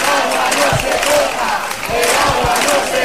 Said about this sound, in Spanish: Es sonido recogido en la Plaza Nueva del Saucedo, una concentración convocada bajo el lema El agua no se toca, en la que estuvieron presentes varios alcaldes del entorno de la Sierra de Camarolos, también de la comarca de Nororma.